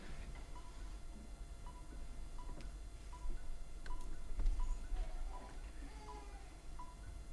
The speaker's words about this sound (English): Somebody's phone there. Если кто-то телефон, можете забрать его.